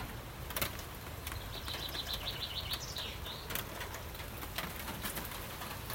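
Steady rain hisses outdoors with occasional sharper drips and patters, while a bird chirps in a quick run of notes partway through. No one speaks.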